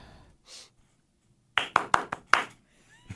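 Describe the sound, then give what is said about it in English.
A short burst of hand claps, about five sharp smacks in an irregular rhythm, fairly loud, preceded by a soft breathy exhale. “Everybody clap with me.”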